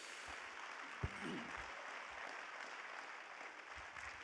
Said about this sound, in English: One more time, clap your hands to the Lord.